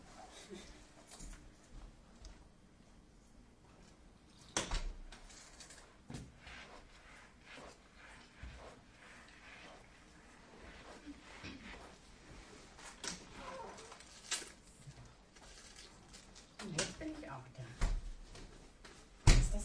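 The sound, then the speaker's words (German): A door is pushed shut, producing a few sharp thuds and clicks scattered among rustling and handling noises, with muffled voices in the background. “Jetzt gehe ich nur noch mal die Tür zu machen.”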